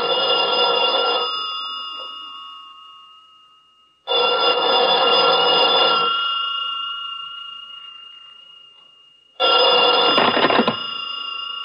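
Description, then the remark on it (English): An old-fashioned telephone bell rings in three loud, clear bursts, each jangling for a second or two before a pause, with the ringing lingering and fading between them. “I'm sorry, but he can't come to the phone right now.”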